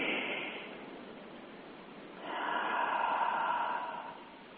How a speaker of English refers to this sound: So let's begin by breathing into your belly. Really deep breath that makes your belly really move up.